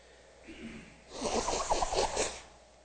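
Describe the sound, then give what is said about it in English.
A person blows their nose, a loud, rough burst of air lasting over a second with a few sputtering pulses, preceded by a soft sniff and no talking. “All right, I'm going to go to the timeline chart now and blow my nose.”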